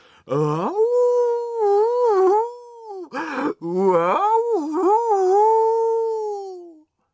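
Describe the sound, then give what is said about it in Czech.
A cat meows from behind a bathroom door in long, drawn-out wailing cries, a sustained mid-pitched call, a short broken burst, then another extended mournful meow that slowly fades, with no talking. “Kuba šel blíž, přiložil ucho na dveře a teď zase slyší. Mňav, mňav, mňav.”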